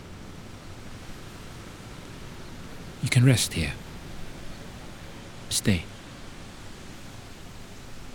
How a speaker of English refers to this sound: Here, the Sungai Klang and the Sungai Gombak flow into one another. Water meeting water.